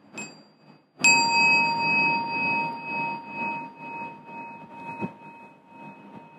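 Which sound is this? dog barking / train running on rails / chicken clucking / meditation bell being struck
meditation bell being struck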